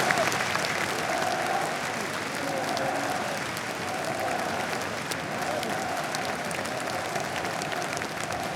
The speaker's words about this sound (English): There's an ovation going on for the Villarreal players at the moment. They've just done a lap of honour now, being applauded by the Liverpool end as well.